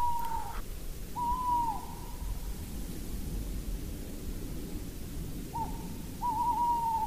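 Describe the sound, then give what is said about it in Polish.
A male tawny owl hoots in drawn-out, slightly wavering notes, turning its head as it calls, a few calls spaced apart with a pause in between, over a steady hiss of background noise. “W tej chwili słyszymy głos samca, ale jest duże prawdopodobieństwo, że sprowokuje to też samicę do odzywania się, która ma zupełnie inny dźwięk, bardziej taki skrzyczący, mniej przypominający takie pohukiwanie, które teraz słyszymy.”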